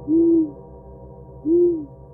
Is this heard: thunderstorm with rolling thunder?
no